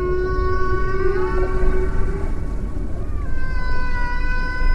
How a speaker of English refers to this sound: Whales have massive communication networks, geographically the largest besides humans. Researchers say blue whales pass their songs through deep water channels, information traveling across a great stretch of the planet, like an aquatic internet.